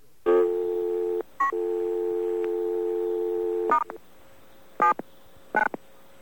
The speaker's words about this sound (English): By the way, I should point out that there's a little chirp on the dial tone when you have this service, and the first time you use it, the chirp is followed by another dial tone because you don't have any names entered.